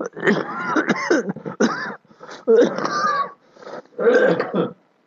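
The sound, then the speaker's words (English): Someone clears their throat and coughs in several rough, voiced bursts over a few seconds, with short pauses between, fairly loud. “Still some cough.”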